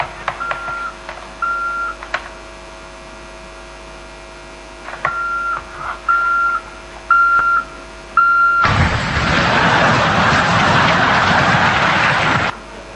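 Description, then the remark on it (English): A truck's reversing beeper sounds a series of short, steady high-pitched beeps over a low hum, followed by a loud, sustained rushing noise that lasts several seconds. “It was the sound of the reversing of the truck.”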